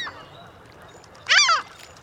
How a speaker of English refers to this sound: Hollow bones help birds like this herring gull sail around in the air without using much energy.